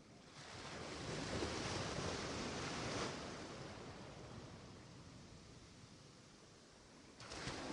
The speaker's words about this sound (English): As the waves continue to wash up onto the sand, then the sea back into the ocean, washing up and flowing back down